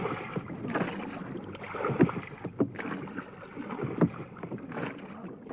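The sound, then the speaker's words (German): Paddles of a paddle boat on a water hike dip and pull through water in a steady rhythm, with sharp splashy strokes about every second or two over a constant wash of water and light wind noise. “Da waren wir uns einig, beim Wasserwandern im Paddelboot, im Gleichtakt der Paddel und dem Atem holen.”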